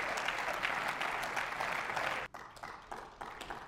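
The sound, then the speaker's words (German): Dense applause from a large group in a German state parliament (Landtag) chamber, steady and loud, then it abruptly thins to a smaller, patchier round of clapping; the applause reflects a government-to-opposition ratio of 105 to 32. “So klingt das neue Machtgefüge beim Applaus im Landtag.”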